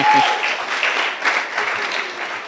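An audience claps steadily, a dense patter of many hands at a fairly even loudness throughout, with a faint tone and voice briefly at the start.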